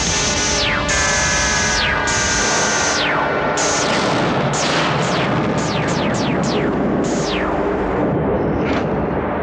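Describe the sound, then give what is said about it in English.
Loud cannon blasts fire in quick succession, each with a sharp falling whine, about ten shots over a constant roaring rumble, dense with no voices. “What was that? Hagen's cannon. They used the cannon.”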